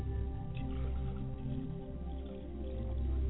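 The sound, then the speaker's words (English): Liquid being poured out as a libation toward the east, in a steady, continuous stream for a few seconds, a low, soft splashing and trickling with faint drips, no voices. “Now, join me as I pour libations to the east, and I say, Ashe.”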